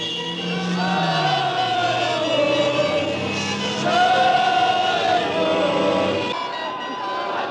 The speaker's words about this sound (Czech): I hned po skončení druhého vítězného zápasu našich hokejistů na mistrovství světa s mužstvem Sovětského svazu se Václavské náměstí zaplnilo statisícovým davem jásajících fanoušků. Přišli sem oslavit naše vítězství.